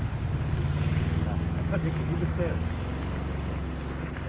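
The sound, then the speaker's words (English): A steady, droning outboard motor at the back of an ancient, open river boat carrying six people runs as a continuous low engine rumble, with faint voices mixed in over the top, on the muddy Lamanic river. “6 soggy peas in an open pod, powered by an outboard at the back and a wiry Iban youth with a bamboo pole at the front.”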